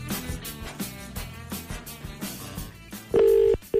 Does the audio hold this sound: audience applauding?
no